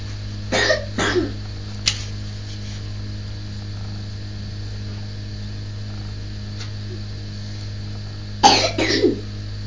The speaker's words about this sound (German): Tut dir das eigentlich weh beim Husten?